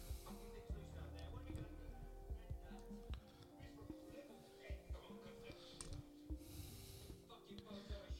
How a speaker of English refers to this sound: She's about to have a panic attack. Is she? What makes you say that? Because she's harder breathing, her hands are clamming up.